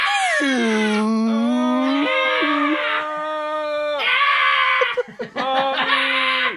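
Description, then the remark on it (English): Several voices loudly imitate Godzilla's roar together, sustained harmonic bellows with sliding pitch lasting several seconds, breaking into scattered shouts and laughter near the end. “Well, let's all do our Godzilla roar to usher out another fabulous episode of Which Is Better.”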